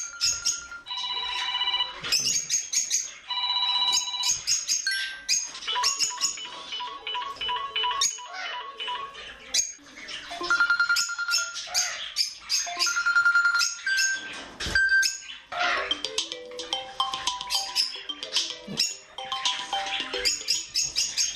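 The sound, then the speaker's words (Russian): An African grey parrot (Jaco) named Zhora mimics a telephone ringing, producing a steady run of bright, electronic-sounding ringtone trills and beeps, with occasional squeaky chirps between the repeated phrases. “Все эти телефонные гудки на самом деле извлекал Жако.”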